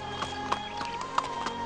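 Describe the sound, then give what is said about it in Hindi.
Horse hooves clip-clop at a steady walking pace, about five distinct knocks spaced evenly, from the horse named Duldul, over a constant humming background drone. “अगर आपको छोड़ दिया जाए तो ग़ुरूबे आफ्ताब तक इस घोड़े के साथ लगे रहेंगे।”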